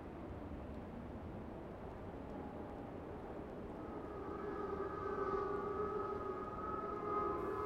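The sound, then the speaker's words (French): An air raid siren rises into a sustained wail over a dense, rumbling background, its steady tone swelling louder in the second half with no voices present. “Les sirènes.”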